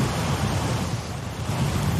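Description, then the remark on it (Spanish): Heavy surf roars steadily with strong wind on the Asturian coast of Spain, under a red alert for giant waves of almost 9 metres. A dense, continuous rumbling wash of noise, heavy in the low end, loud throughout with no voices. “Toda la costa asturiana está en alerta roja y riesgo máximo por olas gigantes y fuerte viento en nuestro litoral.”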